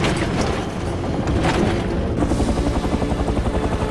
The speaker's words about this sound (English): The helicopter's taillight flashes as it approaches a ship.